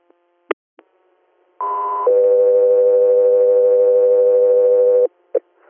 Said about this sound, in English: Sky 3 Air, standby for tones.